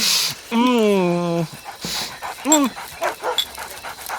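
A dog lets out a long, drawn-out whimper, then a shorter whine, followed by quick, uneven panting breaths.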